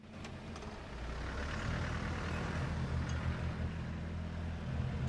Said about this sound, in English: Then he and Buckley's body are driven off in two separate vehicles.